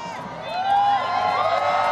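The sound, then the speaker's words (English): A crowd cheers and whoops loudly, with many voices rising together and sustained applause-like noise filling the background throughout. “Somebody was a little slow to put up the applause signs.”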